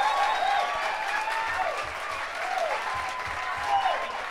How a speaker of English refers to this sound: Maybe with a little encouragement, if we applaud real loud, maybe we could get … to come up here. Mr. …, come here.